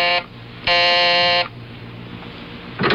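A harsh electric doorbell buzzer, pressed by a reporter at the bell marked for the landlord of a brownstone house, sounds in short bursts: a brief buzz, then a longer sustained one lasting nearly a second, and the start of a third, all loud, raspy and steady in pitch.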